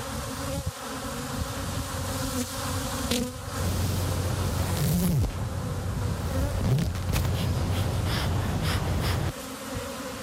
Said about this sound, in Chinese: 在位于纽约第六大道和53街路口的忠诚希尔顿酒店的屋顶上，一群蜜蜂正在辛勤的劳作。